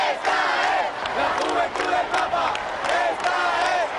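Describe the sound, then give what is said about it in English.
A huge crowd of some 2 million young pilgrims chants in unison as the Pope leaves the stage of the raised altar, loud and sustained, the rhythmic shouts rising and falling in waves with a dense roar of many people behind them. “As he left the stage, firemen clambered onto the structure to assure its safety, while the young people continued to chant.”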